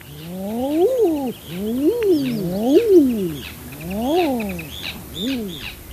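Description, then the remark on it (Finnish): Common eider drakes give their courtship calls, about five loud, crooning 'ah-ooo' moans that rise and fall in quick succession, with faint chattering bird calls in the background. “Soidin onkin lähinnä koiraiden merkki vahvistaa parisidettä ja osoittaa muille koiraille omaa pätevyyttä.”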